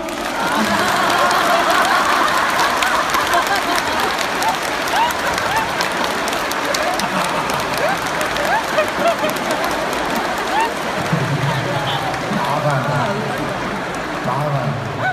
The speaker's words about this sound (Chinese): 是的，鼓掌。